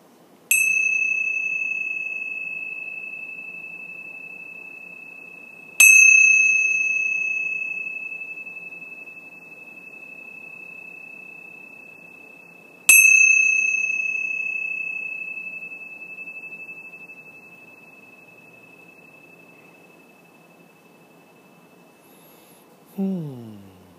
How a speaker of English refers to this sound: And let's begin our day by the ringing of the bells 3 times.